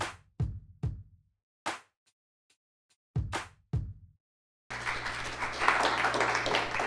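At Redemption Church, a handful of sharp, separate hits with low, booming tails, then a steady wash of audience clapping that continues fairly loud to the end. No one speaks.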